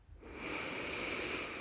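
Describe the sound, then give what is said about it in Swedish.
A long, steady nasal inhale during a guided breathing meditation, breathy, swelling within the first half second and holding airy and even until the end, with no talking. “Andas in”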